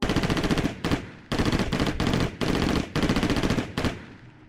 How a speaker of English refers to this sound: But when the gunfire echoed from the other side of the road, I felt my heart skip with a degree of hope.